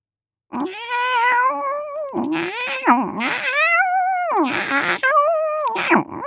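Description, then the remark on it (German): A cat shut in a carrier box at an airport caterwauls angrily, letting out a string of loud, drawn-out wailing yowls that rise and fall with barely a pause between them. “Das ist ja wohl eine himmelschreiende Unfassbarkeit, schimpfte eine Katzenstimme.”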